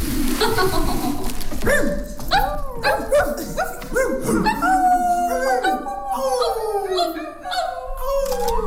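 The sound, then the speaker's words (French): Several voices imitate dogs together, a noisy overlapping chorus of yelps, howls and whimpering barks that rise and slide in pitch, loud throughout. “On a tous un autre enfant qui est encore en nous, qu'on aime accentuer parfois, et qu'on s'est tous retrouvés en meute comme les chiens.”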